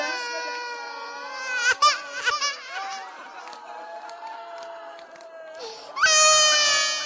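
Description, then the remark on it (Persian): A frightened baby, upset by a crowd, cries loudly in long, wavering wails, with choppy sobbing bursts partway through and a strong fresh wail near the end. No one talks over it. “بچه ترسیده شلوغی دیده، میترسه بچه.”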